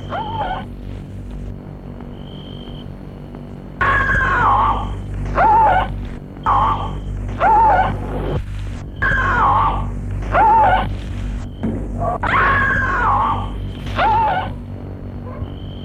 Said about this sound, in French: Des cris horribles envahissent son corps d'allégresse.